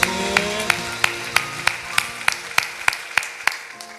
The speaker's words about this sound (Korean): 박수 올려드리겠습니다.